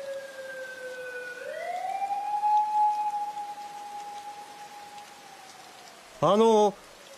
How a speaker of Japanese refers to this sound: さっきからパトカー多くないですか？ え？ 3台以上は通っているんですよ。 確かに。